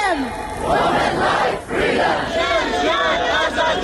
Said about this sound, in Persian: به کردی. به فریاد نام مهسا امینی. شعارهای تظاهر کنندگان در کشورهای مختلف در حمایت از معترضان ایرانی. تجمعهایی با حضور ایرانیان خارج از کشور و مردم کشورهای مختلف، از جمله در واشنگتن دی سی، پایتخت آمریکا.